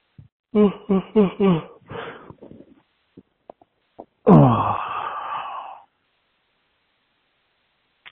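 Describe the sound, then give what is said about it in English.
A long, breathy yawn with a falling, moaning pitch rises after a quick series of short voiced grunts and sighs while stretching; the rest is quiet. “And so I invite you now to slowly bring your awareness back into the room and into your body, and slowly wiggle your fingers and toes and stretch. Yawn.”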